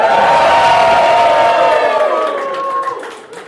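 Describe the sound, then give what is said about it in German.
A live crowd cheers and whoops loudly, many voices blending into a dense roar with some high shouts on top, staying strong before gradually fading toward the end. “Wie gewohnt mit Live-Publikum”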